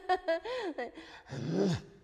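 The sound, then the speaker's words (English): A voice makes a few short, wavering vocal sounds, then drops into a low, gravelly growl that swells and slides downward, imitating a dog's growl as a first exercise in learning throat singing. No words are spoken. “Some of the people that I've tried to teach to throat sing, I tell them they have to spend 1 year trying to sound like their dog first, like growling.”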